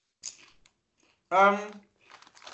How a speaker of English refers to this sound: Crunch is good. Crunch is, yeah, what you expect. It's not as spectacular, but it's good crunch.